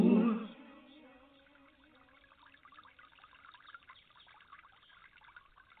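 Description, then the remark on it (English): Gentle, steady trickling water of a stream babbling over stones, a soft continuous patter after a brief tonal sound fades out at the start. No voices. “Again, I like to hear the essence of water dripping along in a stream.”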